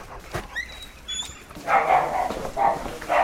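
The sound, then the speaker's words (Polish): Several ordinary mixed-breed dogs bark and yip in short, overlapping bursts, starting with a few thin high yelps and then growing into a louder, busier chorus. “A co to są za pieski? To jakaś rasa? Nie, takie zwykłe kundelki takie są.”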